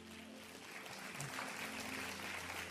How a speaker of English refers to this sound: I'm proud of each of you. Give yourself a big clap.